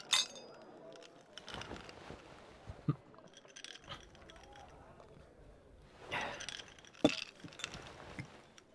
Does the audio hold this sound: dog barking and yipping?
no